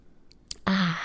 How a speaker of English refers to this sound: For a brief second, there's no noise but my throat just like swallowing coffee. Do you guys mind those noises?